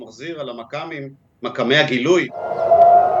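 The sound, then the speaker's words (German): A person speaks, then after a short pause an air raid siren starts up in Tel Aviv, Israel, in the early evening as Hezbollah fires on Israel; a loud, steady mid-pitched wail that slowly climbs in pitch as it sounds on its own. “Am frühen Abend, Luftalarm in Tel Aviv und 180 anderen Orten, wieder schießt die Hisbollah auf Israel, die Armee fängt 3 Geschosse ab.”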